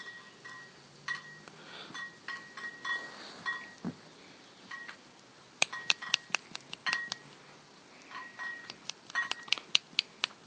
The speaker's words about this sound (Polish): Co tu tak brzęczy pięknie? Co? Co to za muzyka dla moich uszów? No, muzyka piwna.